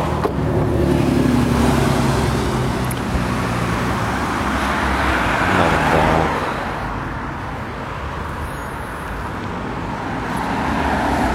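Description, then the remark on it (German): Steady street traffic rumbles, with cars and larger vehicles passing by in overlapping swells as someone waits to cross the street, one louder pass peaking around the middle before the road noise settles to a continuous hum. “Über die Straße hier rüber gehen, wenn es dann der Verkehr zulässt.”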